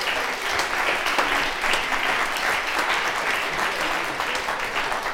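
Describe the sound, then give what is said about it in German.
A crowd claps for 15 confirmation children, a steady dense wash of many hands that holds at an even, fairly loud level throughout, with no voices standing out above it. “Jetzt dürfte unsere 15 Konfi-Kinder nochmal einen großen Applaus geben, das haben sie ganz toll gemacht.”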